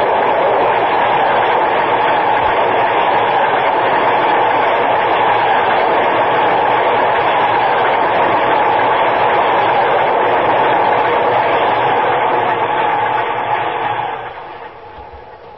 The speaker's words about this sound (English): Downtown Express. You see him? There he is, across the tracks. Get out of the way. Watch the train.